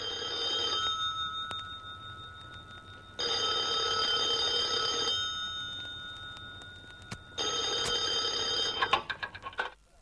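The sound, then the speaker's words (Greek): A telephone rings in three separate bursts as a mayor places a call from his receiver, each burst lasting a second or two with pauses between, fairly loud over a low steady hum, ending with a few clicks. “αυτός ξανασήκωσε το ακουστικό και τηλεφώνησε στον Κουκουτούζ”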